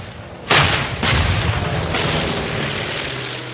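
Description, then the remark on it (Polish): A sustained Russian artillery barrage of nearly 2,500 guns firing toward German lines: a dense roar of overlapping booms with heavy, sharp blasts punctuating it, forming a continuous rumbling wall of gunfire with no voices. “Blisko 2,5 tysiąca dział otworzyło ogień w stronę niemieckich linii.”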